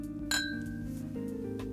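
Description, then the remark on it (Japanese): Glasses meet in a toast with a bright clink that rings out briefly, followed by a couple of softer taps, all over a low, steady hum with no talking. “恐れを負いながら乾杯なんてよろしいでしょうか。 あ、はい、 じゃあ乾杯。”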